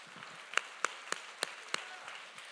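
audience clapping

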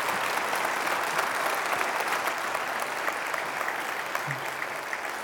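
church audience applauding

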